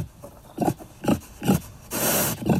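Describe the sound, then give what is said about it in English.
A feral pig on Santa Cruz Island in the Channel Islands grunts in short, throaty bursts, four or five low snorts spaced about half a second apart, with one longer raspy, breathy snuffle in between. Fairly loud, no talking. “Enter the next suspect in the fox's demise, the feral pig.”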